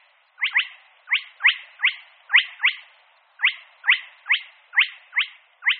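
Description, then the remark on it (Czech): A spotted crake calls over and over, giving sharp, high whiplash notes, some in quick pairs, in a steady rhythm with short gaps and no other sounds around. “Mnohem obtížnější je však chřástala kropenatého spatřit.”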